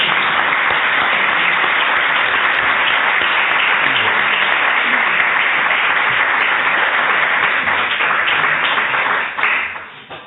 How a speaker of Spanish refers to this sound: Un aplauso y empezamos.